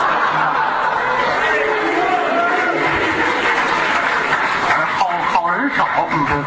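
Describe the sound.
A live audience applauds steadily, a dense wash of clapping mixed with scattered laughter and murmuring voices, sustained and fairly loud throughout.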